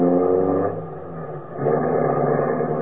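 A car engine runs loudly, easing off for a moment and then revving back up with a steady, rumbling drone as the car pulls off. No one speaks.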